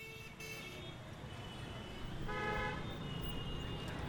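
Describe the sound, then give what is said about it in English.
Steady rumble of nighttime city traffic at about 8:30, with a couple of car horns honking, one short toot early and a longer, louder blare in the middle, set against continuous road noise. “Akashvani nighttime traffic about 8:30.”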